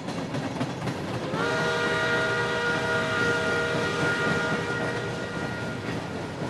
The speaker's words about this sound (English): Here's Bill's recording of a steam locomotive in West Virginia.